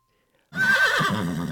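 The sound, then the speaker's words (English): A single loud horse whinny starts abruptly after a brief silence, a quavering neigh that trembles and wavers as it trails off. “I look like a beautiful horse by the river, but touch me and you'll never get away.”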